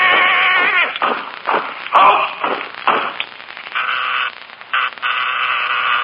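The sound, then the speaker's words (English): The doorbell at Jack Benny's door rings with a sustained, steady buzzing tone in two long stretches near the end, after a noisy jumble of bursts at the start. “Hey, Jackson, there's the doorbell.”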